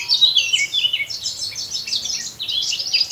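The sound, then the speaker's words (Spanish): A male Eurasian blackcap sings a bright, fluting warble: rapid, tumbling high phrases that run without pause, clear, with no voices present; a female answers with a dull click from the thicket. In the Pas valleys (valles pasiegos), after midday. “El canto aflautado del macho de la curruca capirotada encuentra respuesta en ese sordo chasquido que le devuelve la hembra desde la espesura.”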